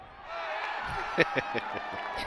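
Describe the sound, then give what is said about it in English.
A replay of a thin, small crowd at a World Series baseball game at Dodger Stadium, cheering in a steady wash of voices, with a few sharp claps and whoops popping out midway through the roughly two-second burst. “That was an accurate replay of that World Series. It was like 12 people in the crowd.”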